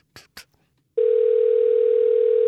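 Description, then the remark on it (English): Two quick clicks, then a loud, steady telephone line tone that holds a single unbroken pitch for about a second and a half, as a call to the architecture firm Rohde Partners in Austin is transferred to voicemail. “I got transferred to voicemail.”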